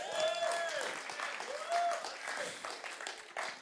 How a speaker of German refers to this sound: Danke, Applaus!